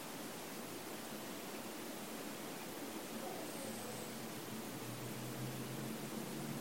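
Raindrops falling as a steady, even hiss that fills the whole clip without pause, with a faint low hum of a motor creeping in underneath during the second half.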